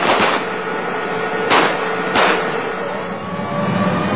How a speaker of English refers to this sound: United States Army, tankers, whoop. They shoot the car up.